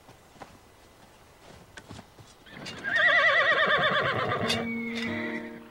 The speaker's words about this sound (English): Back at the Yankee camp, officers and men check their horses over, getting ready to ride out.